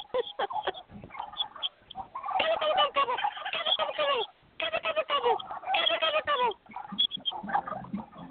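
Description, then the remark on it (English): Turkeys gobble in two long, loud bursts of rapid, warbling calls, with shorter scattered clucks and gobbles before, between and after them. “You make all these friends with the turkeys and then you have to eat them later?”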